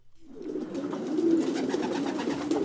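racing pigeons cooing

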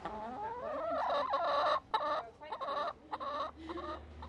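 backyard chickens clucking

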